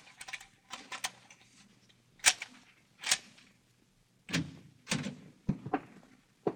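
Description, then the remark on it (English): A series of sharp metallic clicks and clunks as a pass key turns in the lock of a room door and a latch releases, followed by the door creaking open, with no voices. “Have you a pass key? Oh, yes. Open the door.”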